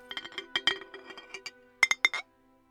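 Glass jars clink together in a quick cluster of light, bright taps, followed by three louder, ringing clinks before the sound cuts to silence.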